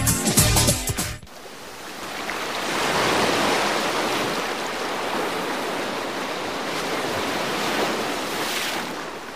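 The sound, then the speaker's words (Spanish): A short burst of music gives way to the steady, full rush of flowing river water, continuous and swelling gently in places, with no voices. “He estado junto al río. He visto correr sus aguas sin cesar.”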